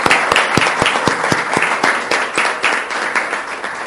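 A crowd at a session applauds steadily to bid farewell to a guest, many hands clapping together in a dense, continuous wash with sharper individual claps popping out at a fairly regular rhythm, loud throughout with no voices.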